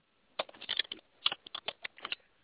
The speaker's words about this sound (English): Whoever's typing, please.